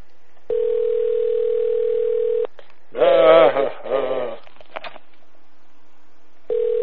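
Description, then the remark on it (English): A phone line rings with no answer: a steady electronic ringback tone holds for about two seconds, goes quiet with a brief muffled voice-like burst in the gap, then starts again. “Pick up the phone, motherfucker.”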